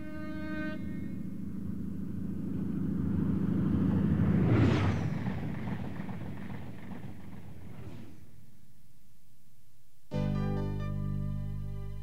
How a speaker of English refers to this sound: By plane.